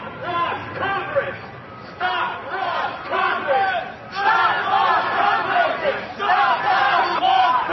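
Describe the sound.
A crowd of protesters at a sit-in at First Street and Independence Avenue in Washington, D.C. shouts and chants together outdoors in the street, many voices overlapping in loud, continuous waves with brief dips between bursts.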